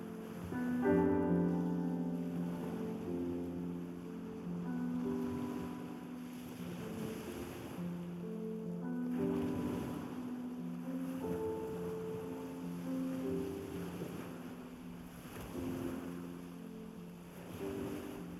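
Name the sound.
ocean waves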